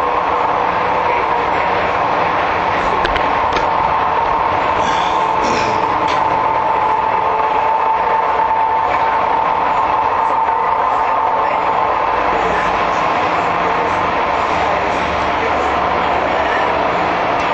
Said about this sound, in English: So, with that, we're gonna get off the train here at this stop. Let me find a rail to hang on to. So here's my stop. This is where I'll get off.